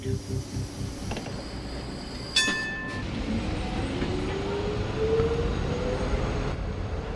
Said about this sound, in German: Ins Kleinbasel nach Little Istanbul fährt das Tramli Nummer 8. Orient Express haben wir das Tram zu Basel eine Weile lang genannt.